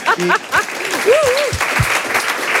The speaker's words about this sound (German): Und können wir an der Stelle mal einen Applaus haben für alle Techniker und Technikerinnen von Radio 1.